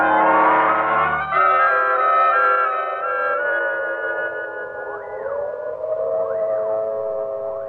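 A prison siren wails steadily, signalling a prisoner escape, its tones gliding and holding in long sustained pitches with occasional rising-falling sweeps, loud, with no voices over it.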